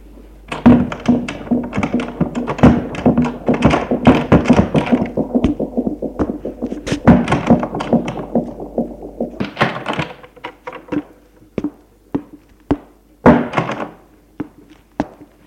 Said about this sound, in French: Le bruit d'une porte qui s'ouvre.